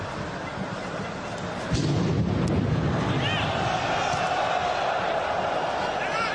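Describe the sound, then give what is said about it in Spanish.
A dull explosion booms through steady crowd noise inside a football stadium north of Paris during a France–Germany friendly match, followed by a fainter second bang moments later, while the crowd's roar continues, slightly louder, afterward. “Dentro del estadio se oyeron las explosiones de esta manera.”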